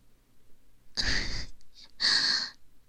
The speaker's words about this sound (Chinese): 都已经开始打呼噜了呢。 看样子是的呢，真的跟猪一样的。